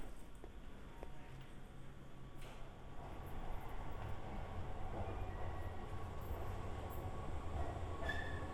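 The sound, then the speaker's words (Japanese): A train pulls into a station, its low rumble swelling from a quieter start into a steady roar of rolling cars, with faint high squeals near the end. No one speaks. “ちょうど電車が来たから乗るよ。”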